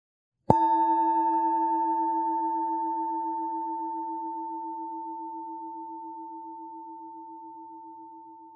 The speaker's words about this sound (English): These instructions guide you through a brief mindful body scan, followed by a mindfulness meditation practice. It will begin and close with the ringing of a bell.